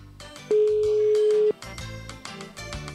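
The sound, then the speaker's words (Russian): A single steady telephone tone sounds for about a second, loud and clear, over busy background music that keeps playing after it stops, at the start of a telephone call. “Итак, есть у нас телефонный звонок.”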